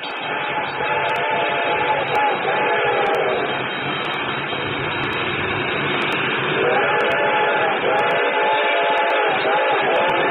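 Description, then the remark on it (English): A train approaches, rumbling steadily and loudly while its whistle wails in long drawn-out blasts, with a bell clanging at a regular pace over the continuous roar. “The train was coming closer. I could hear its bell ringing and the cry of its whistle.”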